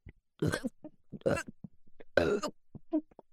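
Three loud, throaty burps break out about a second apart, each a rough voiced gulp, with small soft mouth and breath noises in the gaps between them.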